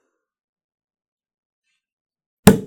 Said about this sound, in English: So I'm ready. I feel primed to drink this bubbly. So could you please pop the bubbly and pour us some glasses?